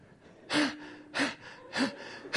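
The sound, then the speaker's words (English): A voice imitates exaggerated out-of-breath gasping: four sharp, breathy inhales in a steady rhythm about half a second apart, fairly loud, with no talking. “Gasping out there.”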